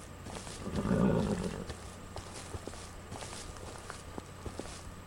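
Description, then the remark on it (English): In a stable, a horse's hooves shuffle and knock irregularly on the floor, with a brief low snorting rumble near the start. A quiet background with no voices. “I am in the stable.”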